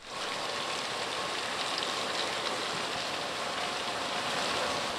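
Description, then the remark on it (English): A steady, continuous rush of flowing water in Big Beef Creek, a stream on Washington's Kitsap Peninsula that empties into Puget Sound's Hood Canal, in late April as juvenile salmon and steelhead rush downstream; a dense hissing babble that stays even throughout, moderately loud, with no voices. “It's late April, so juvenile salmon and steelhead are rushing down the Big Beef Creek, a stream that empties out into Puget Sound's Hood Canal.”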